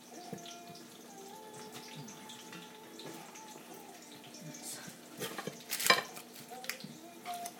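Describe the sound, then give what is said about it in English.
A wooden spoon stirs and scrapes around a frying pan of food with onions and a tin of baked beans, in irregular strokes over a low, steady sizzle, with a sharper, louder knock against the pan near the end. No one speaks. “Wooden spoon here is.”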